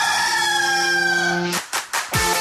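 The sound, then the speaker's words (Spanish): A single loud rooster crow: a long, drawn-out harmonic call that breaks into a few raspy, choppy bursts at the end, with no talking. “Seguimos adelante en el gallo de Radio Activa a las 8:38”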